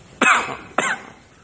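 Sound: cough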